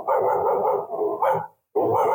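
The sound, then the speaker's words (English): A person imitates a distant dog barking, two drawn-out, muffled bark-like calls separated by a brief silence, fairly loud and heard alone without talk. “We do have two dogs, but this is it.”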